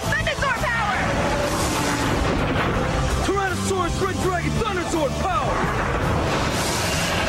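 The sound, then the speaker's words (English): Power Rangers Thunder Zord transformation sound effects: a loud, continuous layering of mechanical whirs, clanks and crashing bursts, threaded with swooping electronic tones that rise and fall over about seven seconds. “I just love that Zord transformation sounds.”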